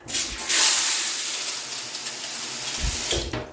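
shower running

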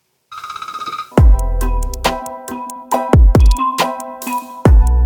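telephone ringtone

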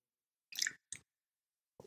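sipping and swallowing water

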